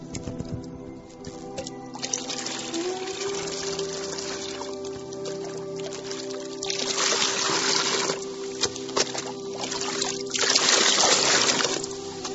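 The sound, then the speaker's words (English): Heavy rain pours down outside in a dense, continuous hiss, surging louder in waves toward the end, with a faint steady hum underneath and no voices. “Outside, the rain is falling like pillars of water.”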